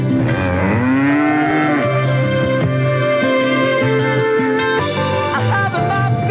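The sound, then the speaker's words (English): A loud, synthetic electronic cow moo, used as a time signal announcing 4:30, rises and bends in pitch, a long electronic lowing with a buzzy, harmonic tone that fills the whole clip on its own, with no talking. “The time at the sound of the electronic cow will be exactly 4:30.”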